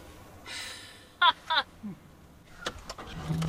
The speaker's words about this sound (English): It's a huge bull hanging out by himself, looking relatively unimpressed by the fact that Robbie's truck is rolling right toward him.